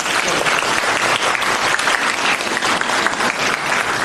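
A steady burst of audience applause, many hands clapping densely and evenly at a strong, constant level for the whole stretch, with no voices breaking through.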